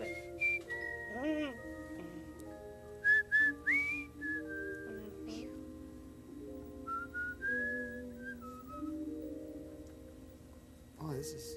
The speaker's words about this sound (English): Oh, he's whistling. Did you get the whistle? Yeah, I got it right here.